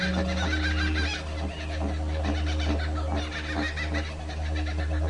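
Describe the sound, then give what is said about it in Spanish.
A dense chorus of tropical birds squawks, chatters and calls over one another without pause, with a steady low hum underneath, in a large aviary at Loro Parque themed on the South American jungle, with a humid tropical rainforest setting, trees and a waterfall. “el maravilloso aviario tematizado en la jungla sudamericana, en el que un enigmático ambiente tropical de selva lluviosa y sus húmedos rincones junto a los árboles y la cascada envuelven a los visitantes cautivando sus sentidos con singulares cantos.”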